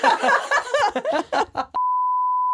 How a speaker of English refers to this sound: I beep, bleep all that out.